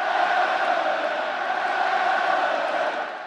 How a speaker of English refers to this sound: The sellout crowd also used their voices to goad Blues goalie Jake Allen.